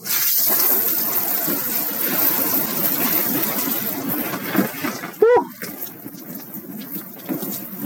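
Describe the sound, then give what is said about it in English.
Cold shower water runs steadily in the early morning, a dense hiss of spray throughout, broken briefly near the end by a short, high-pitched vocal yelp. “The day starts every day, bright and early, with a cold shower.”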